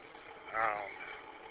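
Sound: diesel truck engine running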